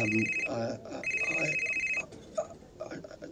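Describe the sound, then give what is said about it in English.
A telephone rings twice, each ring a bright, trilling electronic tone lasting about a second, fairly loud, with murmuring voices underneath. “Yes, this is Cartwright's phone.”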